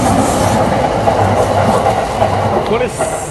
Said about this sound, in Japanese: 電車の音、これたまに、これ山手線でしょ、 これね、あの総武線、 相当なペースで来ますよね、これね、 総武線だったね。